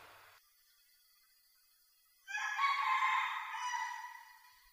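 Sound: rooster crowing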